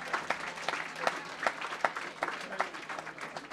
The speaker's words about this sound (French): Mais oui, on les applaudit, on les encourage.